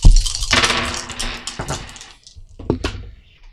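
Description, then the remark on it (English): Four dice, three black and one white, are rolled for a game test. They clatter and tumble across a hard tabletop in a quick burst of clicks, then settle with a few final taps, fairly loud. “So, three black, one white die.”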